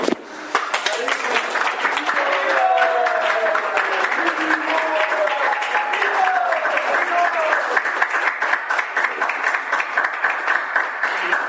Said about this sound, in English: Didn't get much of a round of applause.